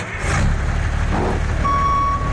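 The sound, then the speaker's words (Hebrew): A heavy old diesel truck engine rumbles loudly and steadily, a low clattering drone, with a thin high tone cutting in near the end. “דיזל ישן, מקצר חיים.”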